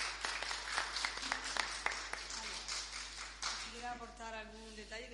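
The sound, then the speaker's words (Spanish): An audience at a public appearance applauds the president of a cofradía (religious brotherhood) with a brisk, scattered burst of clapping for a few seconds. The claps thin out as a man's voice starts speaking over the tail end. “para el que pido un aplauso ya que estamos en esta comparecencia aquí?”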